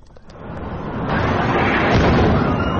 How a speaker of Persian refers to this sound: انفجارهایی که شامگاه دهم تیر دو سال پیش شمال تهران را لرزاند، آتش سوزی در مرکز جراحی محدود سینا مهر شمیران، حریقی هولناک که با انفجار کپسول‌های اکسیژن و هلیوم همراه شد و 19 نفر را به کام مرگ کشید.